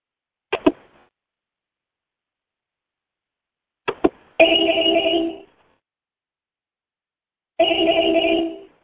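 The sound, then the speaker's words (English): A phone rings twice as a call back, each ring a steady electronic tone lasting about a second, preceded by quick double clicks like a handset being picked up or buttons pressed, with silence between. “So hang up and I'll call you back.”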